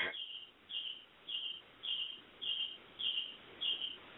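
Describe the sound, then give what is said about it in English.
A cricket chirps in a steady rhythm, about seven short trilled bursts evenly spaced roughly half a second apart, clear and fairly close against a quiet background with no talking. “No, see, you hear crickets and shit?”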